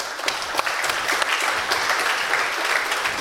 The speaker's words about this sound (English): And a special thanks there to the management of the university, because the rectorate, because they allowed us to do this. I think this is an applause.